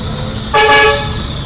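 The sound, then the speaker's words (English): A single car horn honks loudly, a short blast of about half a second with a bright, buzzy tone, set against steady background traffic noise. “All sorts of different people have got all sorts of different horns on their cars.”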